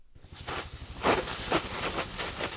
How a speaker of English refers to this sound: On the front lines of the Angora fire, it smells like a mix of fireplace and car wash as firefighters spray a soapy water mixture on smoldering hot spots.